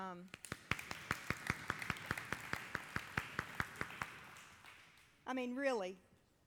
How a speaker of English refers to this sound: And now we have what I believe are two qualified candidates, praise God, to come and interview on Tuesday night. That might have had a little bit of applause.